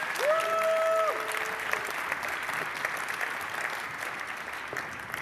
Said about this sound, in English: please give them a big round of applause for this talk.